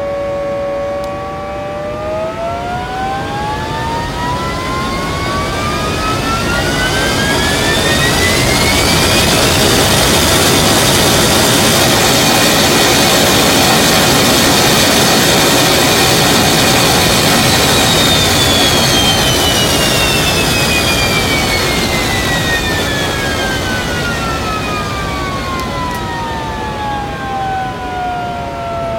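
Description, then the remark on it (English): A loud, continuous jet engine roar, made by combining an engine sound with a fire model for the thrust, fills the whole stretch, its high turbine whine sweeping upward, holding at full power, then gliding back down as the noise eases slightly. “I apologise for something that's a bit loud. Jet engines are.”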